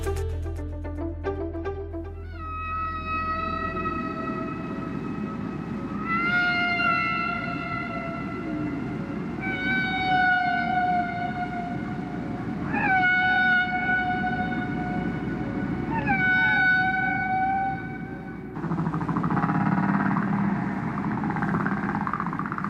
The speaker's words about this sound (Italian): Questo è il canto delle balene.